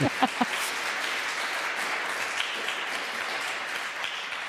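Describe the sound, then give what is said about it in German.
Steady applause from an audience for a passionately delivered plea, many hands clapping in a dense continuous wash at moderate volume, with a few brief vocal sounds at the start. “Das finde ich auch, dass dieses Plädoyer jetzt einen Applaus verdient hat, also mit solcher Leidenschaft vorgetragen, weil das ist richtig.”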